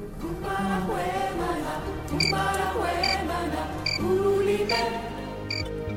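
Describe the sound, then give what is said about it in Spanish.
Short, high cricket chirps, played as a sound effect in a broadcast, repeat roughly once every second, sitting over a steady, humming tonal background with no talking. “Nosotros picaramente poníamos esos grillos porque en aquella oportunidad cada sentencia genial que decía Hugo Mujica era aplaudida por la concurrencia y allí la concurrencia no aplaudió.”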